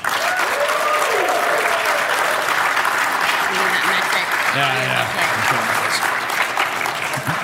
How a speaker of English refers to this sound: By show of applause, let's see. So as of today, as of February 29th, 2020, who's excited about Xbox Series X?